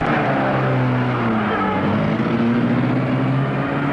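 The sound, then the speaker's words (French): A car engine rumbles steadily and fairly loudly as the vehicle pulls away, setting off for Deauville, its low droning hum shifting slightly in pitch, with no voices present. “Le lendemain matin, Jules Lecoin et sa femme partent en voiture pour Deauville.”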